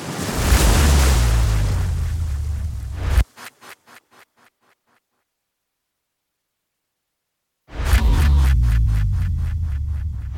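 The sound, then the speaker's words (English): Loud ocean surf roars and crashes, breaks off into a few fading rhythmic pulses and a stretch of silence, then the rushing waves surge back in with a pulsing beat. No one speaks. “Science versus Sharks is coming up just after we paddle past the break.”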